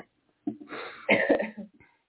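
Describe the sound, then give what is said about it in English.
A person coughs, a rough, husky burst that starts around half a second in, rises to a harsher peak and trails off into a brief throat-clearing rasp. No words are spoken. “I've got this cough.”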